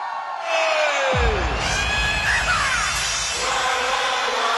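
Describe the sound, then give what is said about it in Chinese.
An audience, hands raised, answers a call for the most enthusiastic screaming, erupting in loud, sustained screaming and cheering, with whoops and yells piling up for several seconds; a falling swoop sound cuts across the din near the start. “来点最热烈的尖叫声！”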